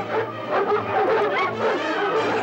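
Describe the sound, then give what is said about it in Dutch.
Several dogs bark and snarl in a dense, continuous tangle, harsh yaps and growls overlapping steadily for a couple of seconds with no pauses, as Vagebond growls threateningly and bares his teeth and the other dogs flee. “Grommend en dreigend liet Vagebond zijn tanden zien, waardoor de laffe honden op de vlucht sloegen.”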